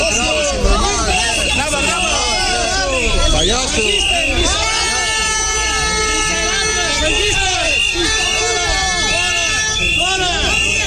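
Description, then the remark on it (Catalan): A loud, dense crowd of independentist protesters in Torroella de Montgrí, at the arrival of Carrizosa, shouting chants and insults over one another, with shrill sustained whistles joining in and blaring steadily through the second half. “Però també s'han intercanviat insults com subnormal o inclús pallasso enmig de xiulets i crits.”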